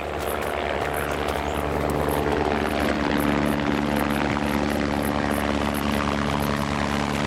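helicopter approaching

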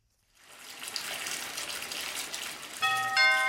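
doorbell ringing

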